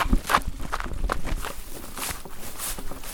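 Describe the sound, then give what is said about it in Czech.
Quick, steady footsteps of people running toward a forest, each step a soft thud with some rustle, continuing evenly for a few seconds with no talking. “Jo, no dobře, no tak běžíme.”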